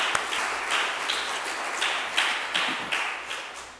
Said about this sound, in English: We need to pause and realize how blessed we are by all of our volunteers. So, yes, I think applause is in order.